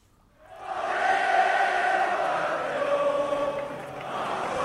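A tennis crowd at Roland Garros in Paris sings the Marseillaise during a match between Frenchman Arthur Fils and Spaniard Monar, the massed voices rising after a quiet start into a steady, blended chorus at a fairly even loudness, with no individual voice standing out.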